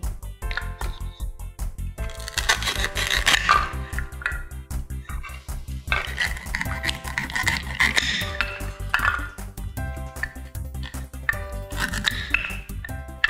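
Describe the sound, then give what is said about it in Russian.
Crunchy, squishy cutting sounds come in bursts as food is sliced up for a soup, with clinks of kitchenware, all layered over steady background music. No one speaks. “Теперь режем.”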